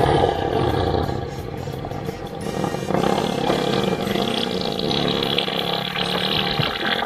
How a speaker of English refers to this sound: You know, God, that one is just so wet. It's gross. So that is an elephant fart. Yeah, that's one of those ones you got to go back and just take an extra wipe.